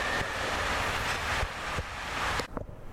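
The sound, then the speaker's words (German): A U-Bahn subway train rumbles past underground with a steady, broad roar that fills the space for a couple of seconds, then quickly fades away into a quieter, clattering tail. “By the way, behold, U-Bahn. Fällt mir gerade so auf.”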